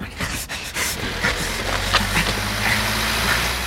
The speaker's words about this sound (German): Dieser Kastenwagen. Das Licht ist eingeschaltet. Ja. Der Motor läuft auch.